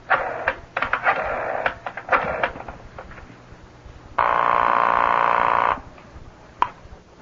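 A telephone is dialed with a rapid series of mechanical clicks, followed by a loud, steady buzzing ring lasting over a second, then a single faint click.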